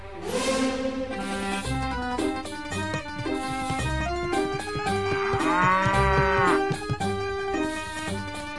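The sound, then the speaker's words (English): A cow moos loudly, a long drawn-out bellow rising and falling, set against a busy, rhythmic musical backing. No one speaks. “To this day, I don't know if they were mad that I wasn't a butcher, or that I brought a cow into the shop.”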